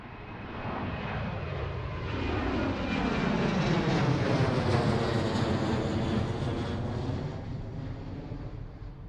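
airplane cabin engine drone

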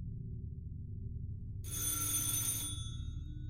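doorbell ringing

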